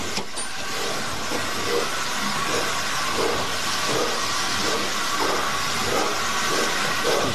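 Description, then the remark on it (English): A steam locomotive eases away gently as steam chest pressure comes up, with a constant loud hiss of steam and rhythmic chuffs beating steadily underneath and slowly quickening, with no voices. “let her ease away nice and gently. Starting to come up now in the steam chest.”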